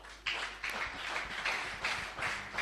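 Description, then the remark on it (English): A church audience claps together as a clap of offering to the Lord, a dense, steady round of applause that swells in rhythmic pulses, sounding like many hands, with no one talking over it. “I want us to worship the Lord for showing us mercy in this our church, Christ Way Church, as we give a clap of offering to the Lord.”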